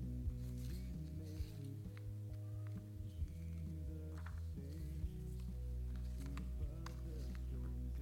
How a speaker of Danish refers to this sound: Nu skal jeg se, om vi kan få styr på alle mine papirer her. Der er mange af dem.